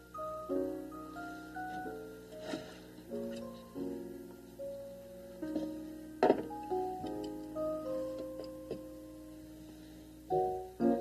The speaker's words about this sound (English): Clock.